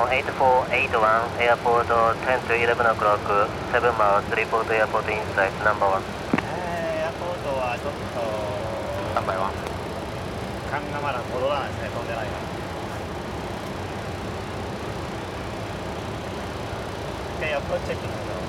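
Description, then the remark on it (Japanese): A steady, low roar of airplane cabin noise fills the whole recording as the plane slowly descends over Tokyo Bay on approach to Haneda, with voices talking over it in the first half and briefly again near the end. “飛行機は東京湾の上をゆっくり下降していきます。”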